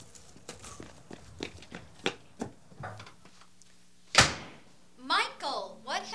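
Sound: door slamming shut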